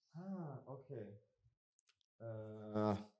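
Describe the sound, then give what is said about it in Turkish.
A pen clicks once, a short sharp snap with a small rattle after it, heard in a pause between stretches of voiced, wordless vocal sound. “Kalem burada evet, oynuyorum sürekli.”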